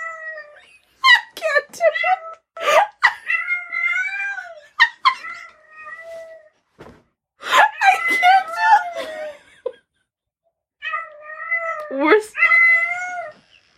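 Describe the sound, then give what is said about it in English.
A human voice imitates a cat, making a series of drawn-out, wavering meows and yowls in three loud bursts separated by short pauses. “You need to make the cat noise.”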